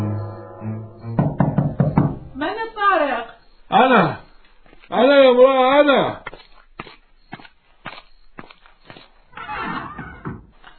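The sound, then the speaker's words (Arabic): Loud, forceful knocks hammer on a door in bursts, sharp, with a horse whinnying loudly between them and more scattered banging afterward; a man returning to his home knocks on its door with all his strength. “يطرق الباب بكل قوة.”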